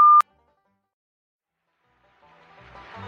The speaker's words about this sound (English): Please leave a commercial after the beep.